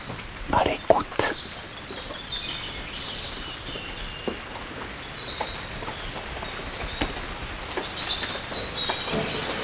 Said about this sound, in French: Sous les tuiles. Une pluie fine.